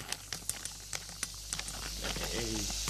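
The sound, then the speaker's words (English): Diced onions are added to a hot pan with Farrington's oil to sweat, hitting it with a quick patter of light taps, then a soft, steady sizzling hiss builds and holds, with a brief murmur of a voice underneath. “We're adding the onions to the pan. You just hear them sizzle a little bit.”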